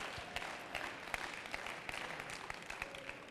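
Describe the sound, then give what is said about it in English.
An audience claps their hands together in praise to God in a dense, continuous burst of applause, many overlapping claps at a steady, moderate loudness with no speech. “And if you believe that God has done a wonderful thing in this place, clap your hands and give him praise for just a moment.”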